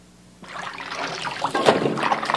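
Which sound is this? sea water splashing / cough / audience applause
sea water splashing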